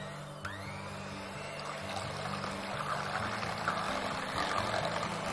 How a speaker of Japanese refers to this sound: この卵をハンドミキサーを使ってホイップしていきます。ない方はお家の泡立て器で一生懸命泡立てていただけるといいです。今回は共立てにしていきますので、卵黄と卵白と一緒に合わせて泡立てていきます。